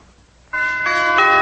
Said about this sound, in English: I can just about imagine what happened when Clifton arrived at your house and rang the doorbell.